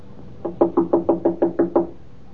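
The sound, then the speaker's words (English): A quick series of about eight firm knocks on a wooden apartment door at the head of the stairs, evenly spaced, with no voices. “Open the door, Miss Judson.”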